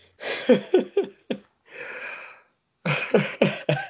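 Breathy laughter in short rhythmic bursts gives way to a long drawn-out yawn-like exhale, then the laughing picks up again in another quick series of pulses.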